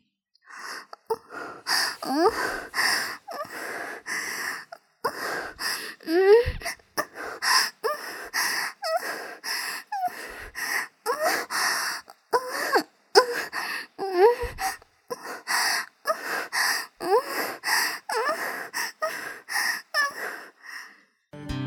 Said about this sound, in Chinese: 很快的，我们就让对方喘息呻吟了起来。